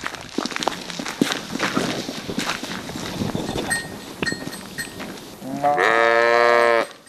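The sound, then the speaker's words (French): Goats, including very old goats, and sheep shuffle and clatter around a farm pen, hooves and bodies knocking, until one animal lets out a loud, drawn-out bleat near the end. “Alors ici on a des chèvres, des moutons.”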